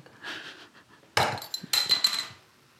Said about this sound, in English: You ready? Oh, why have you just... I've just shook it for the fizz. It's going to fizz over.